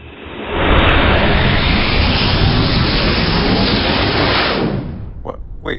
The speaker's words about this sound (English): The bots are escaping, Captain. They fired up their engines and are flying away.